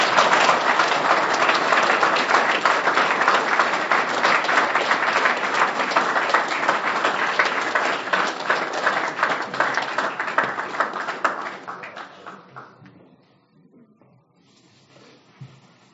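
A roomful of people clapping steadily and loudly for about twelve seconds, then the applause tapers off into scattered claps and quiet room noise.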